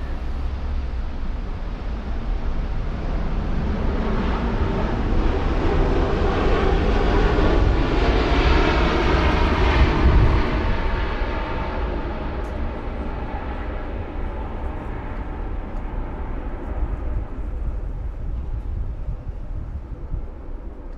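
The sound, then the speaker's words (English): A propeller or jet aircraft passes overhead, its broad engine roar swelling to a peak midway and then sliding downward in pitch as it recedes, with no voices. “So when something passes overhead, I find my attention is really drawn towards the bending of the sound as it approaches, this sort of Doppler effect.”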